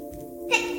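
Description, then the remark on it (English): A child's single sneeze: a short, steady voiced intake that breaks into a sudden breathy burst near the end, moderately loud, with no talking around it. “Bless you, baby.”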